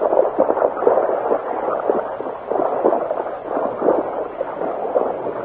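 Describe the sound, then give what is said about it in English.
Horses walk through a shallow creek east of Copper City, their legs churning the water into a steady, irregular run of sloshing splashes and gurgles at moderate volume, with no voices. “slowed their horses to a walk. Easy now, easy. And guided the animals into a shallow creek.”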